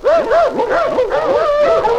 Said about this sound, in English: My, those dogs are noisy, aren't they?